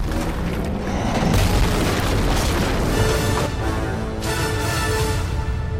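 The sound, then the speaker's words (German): Loud explosions from an action film rumble continuously with deep, heavy booms, sharper blasts bursting out around the middle and near the end, apparently layered with a dramatic musical score and no voices. “Explosionen, Hubschrauber und einfach die absolute Action.”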